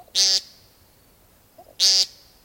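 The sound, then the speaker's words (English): Two loud, buzzy nasal beeps from a male woodcock on a spring evening as the light gets low, part of its sky dance display, each lasting about a quarter second, separated by a pause of roughly one and a half seconds against a quiet background. “In evening, as the light gets low enough that woodcock are very difficult to see, suddenly the males start making funny little beep sounds.”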